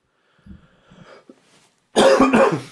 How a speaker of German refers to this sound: Mein Gott, ey, ich huste mir, ich habe immer so einen Kratz im Hals, ich gehe mir selber zu auf den Keks.